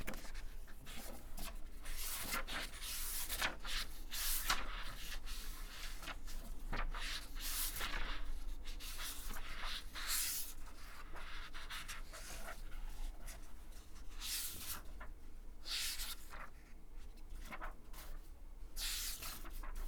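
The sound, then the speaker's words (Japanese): Scratchy pen strokes drag across paper in irregular bursts as someone draws, quick scribbles broken by short pauses, steady and fairly soft with no talking. “まあまず紙とペンを用意します。”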